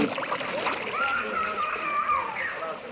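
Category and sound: ambience, splashing water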